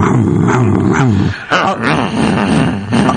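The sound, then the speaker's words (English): A voice imitates a motorbike with a loud, continuous buzzing rumble whose pitch swoops up and down like revving, breaking off briefly midway before carrying on. “So, okay, that's the motorbike off.”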